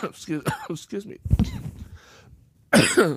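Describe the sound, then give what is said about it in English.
A man talks briefly, then breaks off into a rough cough, followed after a short pause by another louder, harsh cough burst. “Again, I was trying to, not cough, but I couldn't really help myself at that point.”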